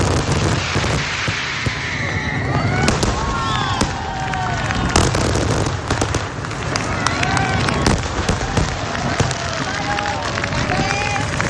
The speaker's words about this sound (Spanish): Éxito de la edición número 36 del Casey del Olla gracias a las innovaciones que ha planteado la pirotecnia Vulcano, encargada del disparo por segundo año consecutivo, y entre las que ha destacado un atronador final que el sábado a medianoche